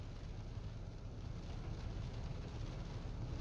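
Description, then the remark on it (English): Heavy rain pours down in a steady, unbroken wash of noise, with a deep rumbling undertone and a dense hiss that holds the same loudness throughout, and no voices. “Like, see, it's starting to really come down now, this rain, I told you.”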